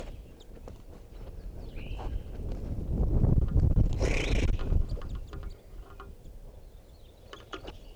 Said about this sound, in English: I'm right underneath the tree that a bunch of crossbills are in, and they're coming down for water.